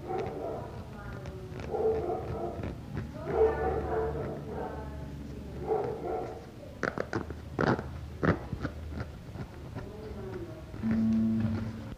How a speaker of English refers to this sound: We may have a nice dog accompanying us this time. There may be a, yeah. As you are hearing right now, but it's all right. All right. Just I think you'll be able to hear me. If we have a dog in the background, we have a dog in the background.